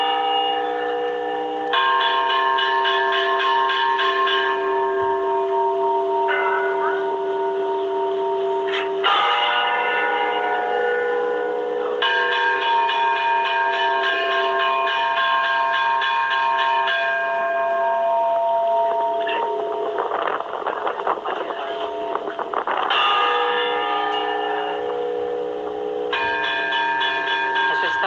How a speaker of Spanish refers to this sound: Secuencia de campana gorda, luego el campanillo repicando, en fin, la gente sabía interpretar estas cosas.